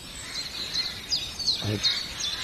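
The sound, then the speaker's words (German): A Eurasian jay gives one short, harsh crow-like caw, imitating a crow, while thin high-pitched bird chirps and twitters repeat throughout the background. “Das war eine Krähenruf-Imitation vom Eichel her.”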